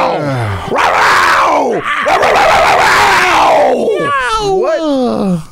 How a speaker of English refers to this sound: In what? The hell was that? That's a panther.